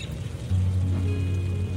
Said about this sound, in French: Encore un soir de pluie.